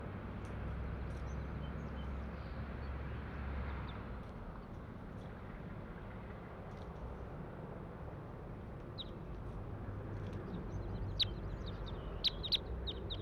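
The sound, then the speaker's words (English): A female crossbill near cages gives a handful of short, high chip calls in the second half, faint and scattered, over a steady low outdoor rumble with no one talking. “A flock of about 20 crossbills just flew over, and this is bird 140 I'm trying to get recordings of.”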